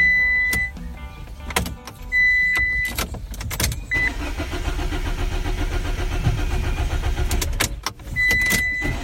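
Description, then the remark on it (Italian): On a Monday, a car engine cranks over and over without catching, with short electronic chimes in between, then a long labored churning stretch before stopping and trying again. Loud, with no voices. “Il mio lunedì, e solo il lunedì, inizia con la macchina che non parte.”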